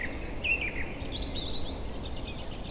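A European robin's thin, high warbling song of quick, wavering phrases sung alone over a soft, steady background hiss, not loud.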